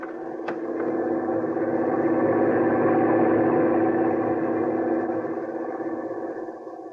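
A truck engine rumbles steadily as it drives up and stops in front of a boat, swelling slightly in loudness and then easing off toward the end, with a brief click near the start and no voices.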